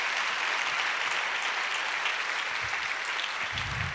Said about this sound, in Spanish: Dele un aplauso al Señor, aleluya.